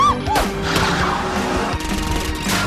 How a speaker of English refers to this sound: a car approaching them from behind. The car starts speeding toward them.